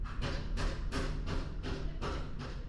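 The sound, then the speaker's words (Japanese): Construction banging in the neighbourhood: about seven sharp, loud metallic knocks in a steady rhythm, with a low continuous rumble underneath and no voices. “今度はな、どんどんガンガンうるさい。 ご近所で工事しとるね。”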